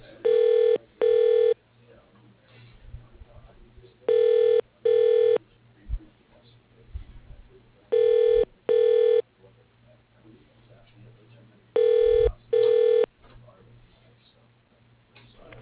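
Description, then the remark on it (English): A phone call placed through an automated staff directory rings through to a person's line with four evenly spaced double rings, each a pair of short buzzy electronic tones, separated by quiet gaps of faint line hiss. “To call this person, press 1.”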